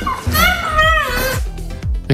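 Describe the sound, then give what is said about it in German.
A young antelope cries out in one loud, drawn-out, wavering call, oddly human like a pained "ow," followed by a few short, softer grunts and a thump. “Das klingt doch, als würde das wie so ein Mensch Aua sagen, oder? Nennen wir es ab sofort das Aua-Antilopen-Baby.”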